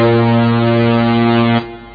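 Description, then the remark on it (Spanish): A single loud, sustained air horn blast with a steady low, brassy pitch, holding for about a second and a half before cutting off abruptly; no voices are heard. “Lleve un cuerno de aire, el cual produce... un sonido más fuerte que la voz humana.”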